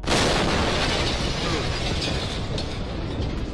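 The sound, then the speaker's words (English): An exploding meteorite's airburst boom: a loud, abrupt blast that swells into a sustained, broad roaring rumble, holding steady and heavy for several seconds without fading much. “These events prove it's possible that you might hear an exploding meteorite at some point in your life.”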